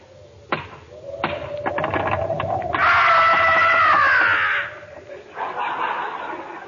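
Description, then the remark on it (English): A sharp single thump, then a quick series of hard knocks on a door, followed by a long, high, wavering creak that fades out before a stretch of rustling noise. “Knock on the door, Rochester.”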